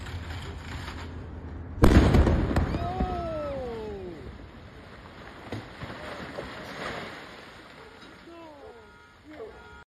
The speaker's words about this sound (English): And notice that after the single boom, there is no remnant of explosive material or fuel burning. So that is typical of gaseous substances exploding,